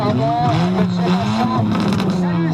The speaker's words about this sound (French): Cette voiture est équipée d'un échappement libre, ça veut dire un simple tuyau. Ce qui compte, c'est de faire du bruit.